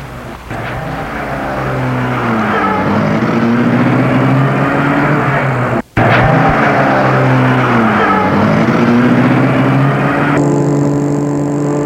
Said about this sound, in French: Et la voiture démarre.